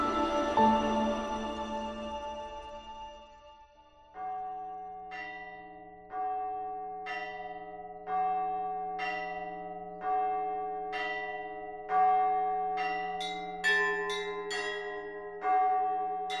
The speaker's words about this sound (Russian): Это случилось, когда колокола сзывали верующих к мессе.